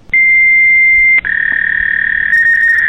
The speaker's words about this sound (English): Modem connected.